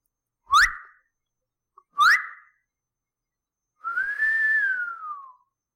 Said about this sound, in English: I whistled for the cab, and when it came near